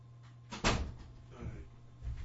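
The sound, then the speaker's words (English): A door is opened and closed to let a cat out: a sharp knock-like thud as it opens or shuts, followed by softer rattling and shuffling over a low steady hum. “Musta wants to go out.”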